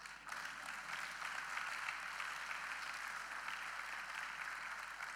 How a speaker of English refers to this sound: If you are clapping, clap.